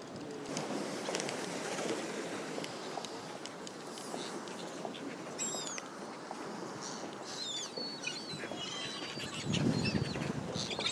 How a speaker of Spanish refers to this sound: Y eso que se oye son cisnes. Yo pensaba que eran gaviotas así de lejos, pero no, no, son cisnes que están aquí en el muelle protestando. Hay cisnes pequeñitos y sus papás que están llevándoles por aquí.